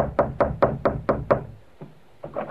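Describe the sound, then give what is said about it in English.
Three people rap firmly on a door: six quick, evenly spaced knocks, then after a brief pause a softer single knock and a couple more. The knocking is loud, with no voices. “Now we find the Falcon, Charlie, and Vince knocking on the door of the snake in his own personal Garden of Eden.”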